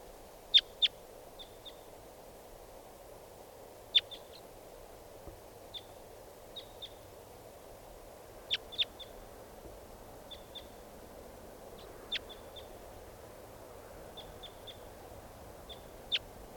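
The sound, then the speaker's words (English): Short, high-pitched chirps from a wild bird repeat in irregular clusters of two or three over a steady low background hum, with brief pauses between calls. “Start recording. Here's one of the birds.”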